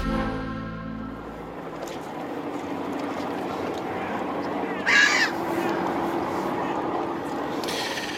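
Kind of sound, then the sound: bird, seagulls calling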